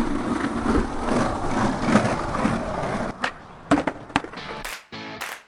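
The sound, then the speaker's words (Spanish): The wheels of an A-Skater skateboard roll steadily over a rough road with a gritty, continuous rumble for about three seconds, then give way to several sharp clacks and thuds as the board hits the pavement. “Con A-Skater puedes circular por la carretera sin problemas.”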